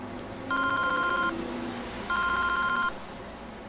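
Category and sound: household object, telephone ringing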